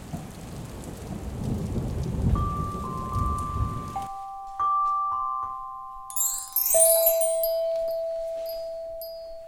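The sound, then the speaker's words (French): Dense, steady heavy rain hisses down on a street for about four seconds, then cuts off abruptly, leaving sustained bell-like chime tones and bright tinkling sounds ringing on alone. “Mais de son côté de la rue, la pluie tombe serrée et drue, l'empêchant de bien y croire.”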